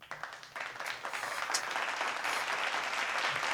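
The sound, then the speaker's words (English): A crowd applauding, dense overlapping claps building quickly and holding steady at a fairly loud, even level throughout, with no voices standing out. “Let's do some more applause.”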